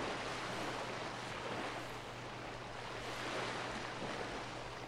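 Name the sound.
sea waves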